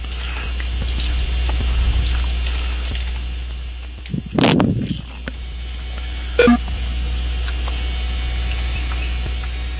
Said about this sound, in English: Oh, somebody's calling me. Calling you what? Right to the voicemail.